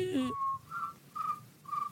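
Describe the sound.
A person imitates a cricket with a steady series of four short, high whistled chirps at an even rhythm, after a brief voiced sound at the start.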